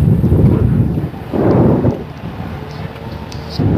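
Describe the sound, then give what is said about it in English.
Strong wind buffets the microphone with a loud, low, rumbling roar that surges in gusts, easing briefly before swelling again. No one speaks. “I don't know if you can hear it in the microphone. But I think it's inflow from the storm.”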